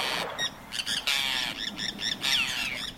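A Forster's tern gives a rapid series of harsh, grating squawks, about six raspy high-pitched calls in quick succession, fairly loud and with no voices present.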